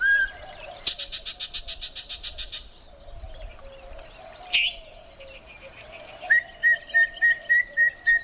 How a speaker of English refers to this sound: After a long and careful scan of the willow treetops, your eyes come to rest on the mystery singer, a bird with a bright yellow chest and a green face marked with what look like bold white spectacles. You've just spotted a yellow-breasted chat.